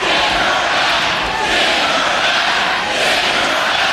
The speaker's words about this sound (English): You can hear it there, the crowd chanting, send her back.